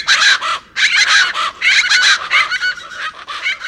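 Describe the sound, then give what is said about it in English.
Plain chachalacas, large chicken-like birds, shout loud, harsh, raucous calls in a rapid, rhythmic series, nearly continuous, with brief gaps between bursts and no talking. “While the large, chicken-like plain chachalaca shouts loud enough to drown out all others.”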